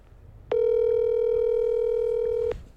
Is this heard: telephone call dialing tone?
yes